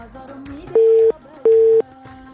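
Two loud, steady beeps of a telephone busy tone after a caller's call to a phone-in programme was disconnected, each lasting about a third of a second with a short gap between, over a faint murmur of background sound.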